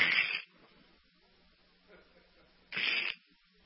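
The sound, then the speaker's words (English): Two short, crackling crunches of ice giving way underfoot while crossing a frozen shallow creek, each lasting about half a second, separated by a quiet pause of roughly two seconds. “And if you've ever started walking across a body of water that's iced over, it's a sickening feeling when you hear this.”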